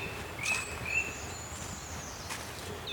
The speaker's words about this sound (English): Now, there is a tree creeper singing here. Let's see if I can point it out to you. It's like a needling giggle in the background.